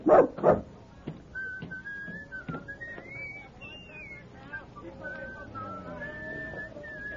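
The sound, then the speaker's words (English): A dog, Rags, being left in a circus wagon, gives two sharp, loud barks, then falls into a long stretch of high, wavering whines that rise and dip over a quiet background. “Now you stay quietly in this wagon and behave yourself. Now, no use wagging your tail.”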